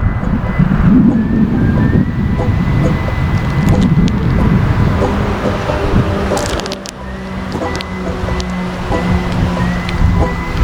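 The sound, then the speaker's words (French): Constant loud roar of expressway traffic in August, with cars, many full of tourists, rushing past and a droning engine hum rising in the second half, under gusty wind noise; no one speaks. “Pas trop de voitures aujourd'hui, pas mal de voitures d'ailleurs remplies, a priori des voitures de touristes.”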